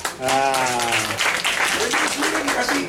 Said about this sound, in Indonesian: kita tepuk tangan semua.